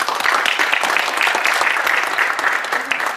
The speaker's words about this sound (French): Donc merci, et applaudissons-nous tous pour commencer cette cérémonie.